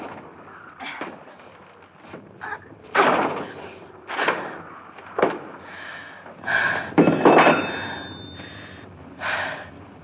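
Someone repeatedly yanks and bangs at a jammed door, producing a series of loud, uneven thumps and rattles, mixed with strained gasps and heavy breathing between the efforts.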